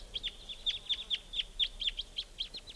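A flock of type 2 birds calling: a rapid, uneven stream of about a dozen short, high, bright chip notes, some overlapping, over faint low background rumble with no voices.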